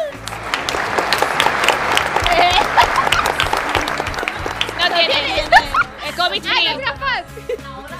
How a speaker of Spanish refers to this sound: Venga, todo el mundo desde su casa, aplausos. ¡Venga, aplausos!